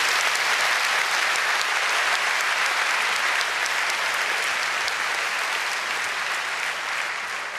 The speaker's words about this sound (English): So please, a quick round of applause for my co-authors as well.